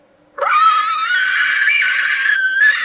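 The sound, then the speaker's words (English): A person lets out a long, loud, piercing high-pitched squeal, imitating a pig's mating squeal, holding it steadily for over two seconds with a slight waver near the end. “Is that a sex noise for a pig?”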